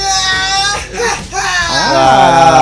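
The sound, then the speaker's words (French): A man, the show's designated howler called in as reinforcement, screams loudly and continuously for a few seconds, a harsh, strained, high-pitched howl that wavers, dips briefly, then surges and bends upward in pitch. “Il y avait un bruit, du coup on a appelé le hurleur en renfort, ouais.”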